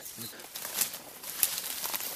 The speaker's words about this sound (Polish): O, tu jest, w tej martwej olszy. Tak, z tego drzewa. Tak, jest dziupla. Słyszymy młode dzięcioły duże. To w ogóle pierwsze, jakie słyszę w tym roku. Bardzo charakterystyczny dźwięk.